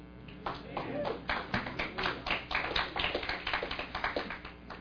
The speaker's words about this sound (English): Finally, you're just clapping for the Bible.